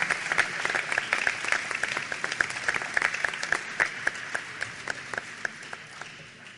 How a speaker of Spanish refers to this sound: Brindamos un aplauso así para el equipo de la Secretaría de Hacienda de la Municipalidad de Bariloche.